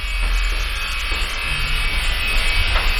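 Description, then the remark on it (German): A hair dryer runs steadily and fairly loud throughout, a constant whirring blast of air with a low motor hum underneath and no one speaking. “Ich habe heute einen Föhn.”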